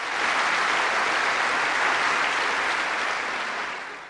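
An audience from the world of culture in the largest auditorium of a city arts complex in Portugal claps and cheers to greet Pope Benedict XVI, a dense, unbroken roar of applause that holds at a constant loud level, then begins to taper off at the end.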